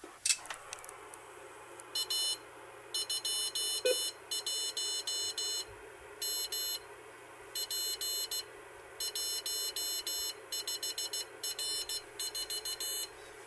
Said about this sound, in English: it gives you all the information on the radio display and menu settings and so on and so forth, frequency and everything in Morse code. And it has an internal battery, so I'm just going to turn it on.